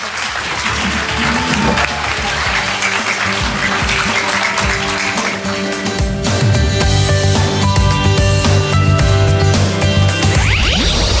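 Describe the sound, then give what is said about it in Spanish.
At a reading event, an audience claps steadily and loudly for several seconds to see off the mayor and the pedagogical director, then an Onda 15 Radio Castalla music jingle rises over the fading applause and ends with a rising swoosh. “Bueno, pues vamos a despedir momentáneamente al señor alcalde y a la señora directora pedagógica con un fuerte aplauso, porque empezamos enseguida con el primer cuento y único.”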